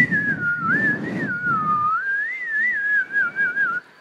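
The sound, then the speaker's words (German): Children whistle along to a wavering tune, one clear high melody line running for about four seconds, with a low crowd rumble underneath during the first half. “Könnt ihr mal mitpfeifen? Wir pfeifen dem Einhorn, dem Ungeheuer mal was.”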